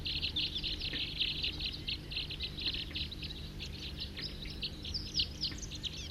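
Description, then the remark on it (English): A big flock of about 40 wild birds calls continuously and loudly, many overlapping high chirps and short whistled notes crowding together in a busy, steady chatter over a low background hum. “Here comes a big flock, about 10, 40 on the side here, calling loud, pointed at the wild birds.”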